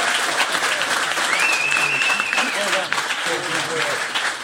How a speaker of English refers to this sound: Thank you again. I think we've learned quite a lot today. We've obviously learnt an awful lot from Dan Hodges from the Mail on Sunday. So a special round of applause for Dan.